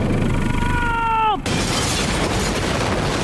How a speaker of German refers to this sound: Es kracht und knallt aus allen Auspuffrohren. Liebe Zuschauer, ein brutales Motorengeräusch hat eine schwarze Wolke verursacht, die uns wie eine Explosion aus dem Auspuff